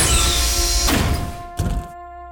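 A heavy airlock inner door on a ship opens with a loud pneumatic hiss, then a mechanical clunk and a shorter second burst, over a steady low electrical hum that lingers after the door settles.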